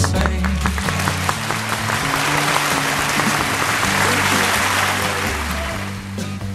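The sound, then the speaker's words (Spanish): A crowd gives the applause of the day, for Extremadura and Madrid, clapping steadily for several seconds, a dense wash of clapping over a sustained low musical drone, tapering slightly near the end. “Venga, para Extremadura y para Madrid.”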